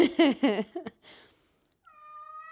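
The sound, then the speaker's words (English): A cat named Soup meows several times in quick succession, loud, wavering cries that rise and fall in pitch, then a pause and a steady, flat high-pitched tone. “You need to get a second cat.”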